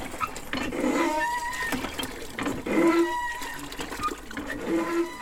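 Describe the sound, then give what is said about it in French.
A French-made Gillot hand water pump squeaks loudly, each stroke giving a drawn-out, braying, donkey-like squeal, repeating about three times in a steady rhythm, with no talking. “j'ai acheté chez Gillot le dernier fabricant de pompes françaises et le pompe à bras, qui va très bien. C'est un peu un bruit d'âne.”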